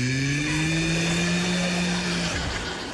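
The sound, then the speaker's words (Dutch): A voice imitates an airplane while feeding a small child a spoonful of porridge, making a steady, buzzing engine drone that holds a low pitch, sags slightly and trails off near the end, with no words spoken. “Nee, dat is vliegtuigje, zo van...”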